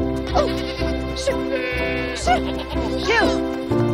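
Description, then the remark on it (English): Several goats bleat loudly and repeatedly, their wavering, overlapping cries coming close together over a steady background hum, with a faint tinkle of bells here and there. “She runs away from the goat herd.”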